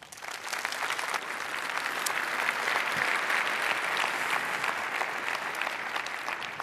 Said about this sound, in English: Please welcome her with a lot of applause.